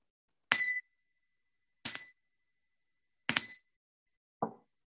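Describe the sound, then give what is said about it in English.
A small bell is struck four times at a steady, unhurried pace. Each bright metallic ring fades quickly, and the last strike is softer and duller. There is no talking. “And then with the sound of the bell, shift your focus to the breath.”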